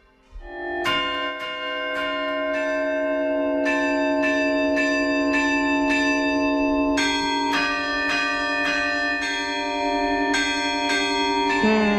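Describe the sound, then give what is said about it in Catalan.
A carillon, a set of tuned bells played like a large piano and a traditional instrument of the Netherlands, rings out a steady sequence of notes, the strikes overlapping into a rich, sustained shimmer. Loud and clear throughout, with no voices. “Lo que està molt clar és que és un carrilló.”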